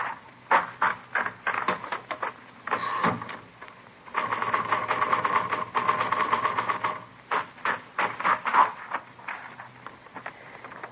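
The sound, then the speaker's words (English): Typewriter keys clack, first in separate strikes, then in a fast, steady run of typing, before slowing back to single, distinct keystrokes, as a typewriter is tested in a police forgery division to check it against a forged letter. No one speaks. “No, this isn't the typewriter we're looking for.”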